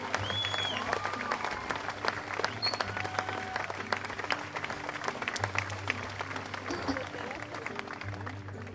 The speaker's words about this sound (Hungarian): Nyugodtan tapsoljátok meg. Visítsatok, kiabáljátok.